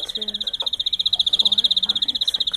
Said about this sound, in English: A lot of birds. Greenfinches, to be specific. They're in small cages, about a foot wide and a foot tall.